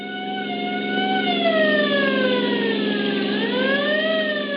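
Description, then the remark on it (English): A loud siren wails continuously through a driving rainstorm at nightfall, its pitch sliding slowly down and then sweeping back up, over a steady low engine rumble and hiss, with no voices, as a deputy sheriff speeds along. “The scream of a siren knifed through the din of a driving rainstorm”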